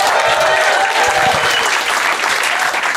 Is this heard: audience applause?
yes